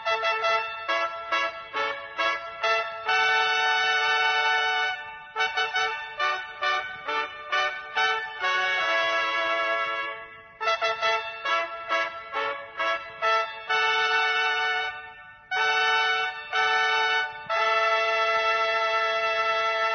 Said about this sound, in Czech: Prepoznatljiv zvuk fanfara označava moment kada proglašavamo, odnosno objavljujemo imena dobitnika u drugom krugu nagradne igre Uzmi račun i pobedi 2020.